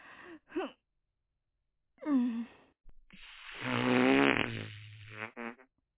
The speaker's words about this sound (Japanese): おなら出したし、これでどうかしら。